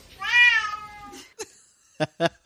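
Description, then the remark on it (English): A cat lets out one long, drawn-out meow, loud, then a pause and three short, clipped vocal bursts in quick succession as it meows along to a song, with no talking. “Hearing that clip makes me want to have a cat.”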